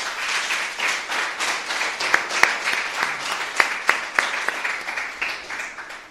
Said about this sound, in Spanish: Bueno, también nos acompaña los representantes de la Asociación Ecológica Extremeña de Navalmoral de la Mata. Un aplauso para ellos.